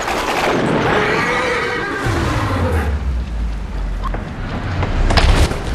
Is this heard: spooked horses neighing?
yes